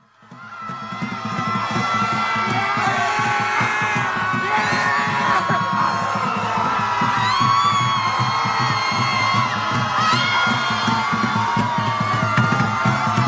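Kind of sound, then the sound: crowd, crowd of protesters screaming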